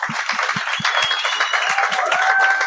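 An audience applauds steadily, a dense wash of many hands clapping at a fairly loud, even level, with a few faint tones drifting over it and no one speaking.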